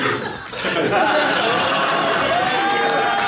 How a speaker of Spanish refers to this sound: Esto ahora lo escucha uno por primera vez el programa y dice, pero que han aplaudido esto, ¿no?